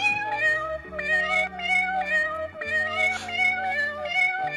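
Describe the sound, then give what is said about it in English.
Cat meows pitched and chopped into a rhythmic melody, repeating in steady bursts over a thumping bass line and beat, a rap song built from meowing. “Cat song.”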